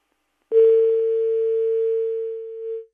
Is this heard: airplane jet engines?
no